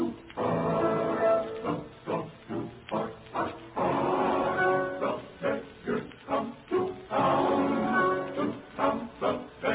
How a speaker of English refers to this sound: Remember, Hark, Hark, the Dogs Do Bark?